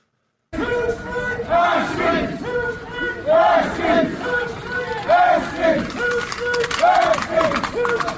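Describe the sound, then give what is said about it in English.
A large street protest crowd of roughly 2,000 to 3,000 people chants and shouts in the evening in repeated rhythmic bursts, loud and continuous, with many voices rising together roughly every second over a dense background of crowd noise. “Now, protesters are not too happy about this. And they were out on the street again over the weekend, only yesterday evening, actually.”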